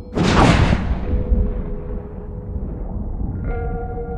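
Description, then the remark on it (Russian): A loud, sharp thunder clap, from lightning striking a makeshift antenna of rebar above a cellar, bursts out, then settles into a low, steady rumbling hum with a droning tone that shifts and thickens near the end. “Раздался сильный разряд грома, а за ним нагнетающий атмосферу гул.”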